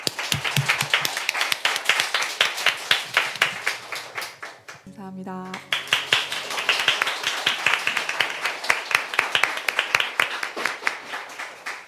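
A radio show audience applauds a live song performance with dense, rapid clapping that stays loud and steady for about twelve seconds, broken briefly midway by a short, tonal cheer or whoop.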